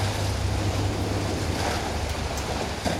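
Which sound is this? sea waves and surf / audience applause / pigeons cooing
sea waves and surf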